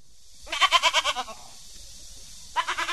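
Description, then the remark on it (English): A goat on a small family farm near Beijing, China, bleats loudly in a long, wavering call, falls quiet for about a second, then starts another bleat. No one speaks. “Two goats, some turkeys, chickens and ducks, but no pigs.”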